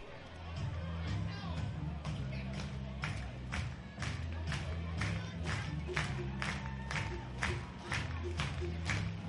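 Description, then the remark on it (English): Baseball stadium crowd noise at an Augusta Green Jackets game, bottom of the seventh inning in game two of a doubleheader: a steady murmur of many voices, with rhythmic rounds of clapping beating out a regular pulse over a low, droning rumble underneath. “Crowd staying engaged here in the bottom of the seventh.”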